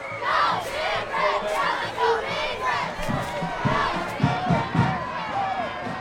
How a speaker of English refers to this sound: The crowd was loud and proud as the Blazers faced the Chargers for the last time.